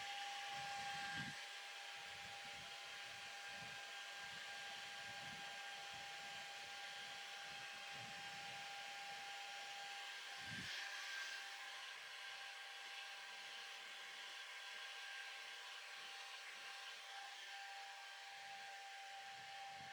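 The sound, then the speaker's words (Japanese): A hair dryer blows steadily for the whole stretch, drying a seated customer's hair, a constant airy roar with a faint whine, its airflow occasionally buffeting as it moves over hair. “このままずっとドライヤーかけ続けたいぐらい。”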